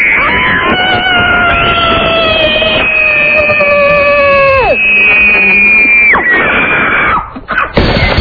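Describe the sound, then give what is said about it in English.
Two women, winners of a Halloween costume contest, let out a long, loud, piercing blood-curdling scream in unison on request, their voices held for several seconds before one drops in pitch and trails off, followed by a brief final shriek. “give us one blood-curdling scream together.”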